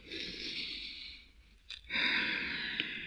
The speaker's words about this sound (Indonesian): Baik, biar segar sekarang anak-anak ambil napas bareng-bareng dengan saya. Ayo mulai.